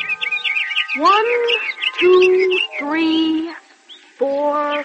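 Seven baby birds that cannot yet fly chirp in a nest fallen from a tree, a quick high twittering at first, then several loud, squeaky, wavering peeps in short bursts with brief gaps between them.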